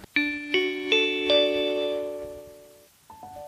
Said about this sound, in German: Das war der Gong für das Ende dieser Stunde Bildungsblick.